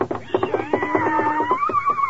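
A galloping horse sound effect in the radio show Bird's Eye Open House, for a horse galloping up to a house: quick, steady hoofbeat pulses repeat at moderate loudness for about two seconds, overlaid with a sustained, gliding tonal sound.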